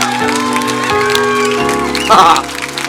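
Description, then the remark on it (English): An audience claps and cheers steadily over sustained keyboard chords, the crowd noise rising into a brief louder burst of shouts near the end. “You know why we freak out and clap and cheer?”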